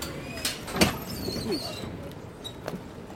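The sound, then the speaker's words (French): A heavy metal prison door at the prison building in Fresnes opens with a few sharp clanks and a brief metallic scrape, over a low hum and faint indistinct voices. “Derrière cette porte qui enfin s'ouvre, le grand vieux bâtiment de Fresnes.”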